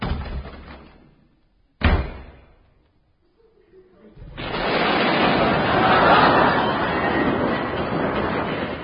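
A lingering rumble fades out, then a door slams once as a sound effect in The Goon Show, loud and sharp with a short ringing decay. After a brief silence, a steady, loud rushing noise swells up and continues to the end.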